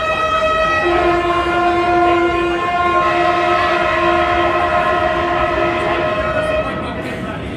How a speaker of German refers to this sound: Und der Lokführer des vorbeifahrenden Güterzugs pfeift das Pfeifen der Solidarität.